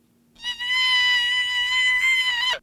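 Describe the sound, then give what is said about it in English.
A single animal distress call played back to deer through a speaker, its pitch raised by software from 170 hertz to an average of about 900 hertz: a sustained, high, bleat-like cry with rich harmonics lasting about two seconds, steady and loud before cutting off with a slight downward waver. No one speaks. “We're able to use software to increase the frequency of the pitch without changing any other acoustic traits in the call.”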